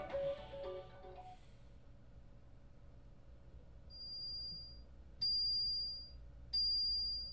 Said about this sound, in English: Just the same as the last few days, I wake up to the sound of an alarm.